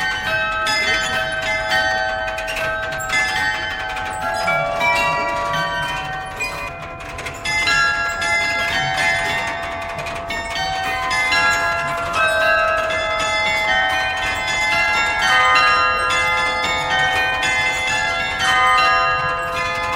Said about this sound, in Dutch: We hebben hier de cilinder, daar is de muziek op geprogrammeerd met pinnetjes. Die zijn verbonden aan de klokken. Die maken de muziek. Daarachter is het gaandwerk. Die houdt de tijd bij, zodat de melodie op de juiste tijd gaat spelen. Het carillon.